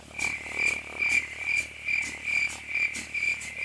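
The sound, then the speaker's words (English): Crickets chirp steadily in a quiet night setting, a shrill, high trill pulsing in an even, repeating rhythm with no voices. “Yeah, that says bad things about the crickets right there.”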